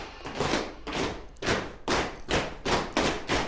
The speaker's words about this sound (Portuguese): E rufem os tambores.